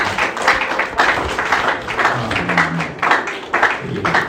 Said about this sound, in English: So if you follow her, can we give them a round of applause?